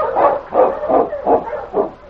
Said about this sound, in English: Sounds like your dog's impatient.